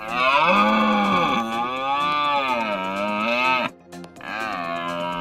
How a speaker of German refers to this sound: Das ist der Rothirsch, das Tier des Jahres 2026.